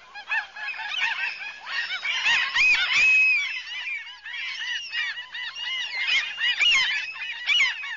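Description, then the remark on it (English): A small flock of small gulls calls continuously, overlapping high-pitched squeals and chatter filling the whole stretch, with no voices. “Well, you know, because of its size, it does actually have a little bit higher pitch. If you sit long enough next to a small flock of gulls, you can hear every single sound they make.”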